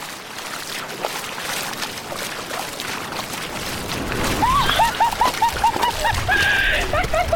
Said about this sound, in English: The water is cold. Waves are crashing against my legs, shooting spray up towards my upper body and face.